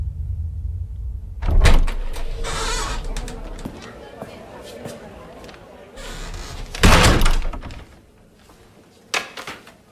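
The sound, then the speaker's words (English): A door on a plane is opened with a loud rattle and thud, and a second similar burst follows a few seconds later, with murmuring voices and background rumble in between. “Open the f***ing door!”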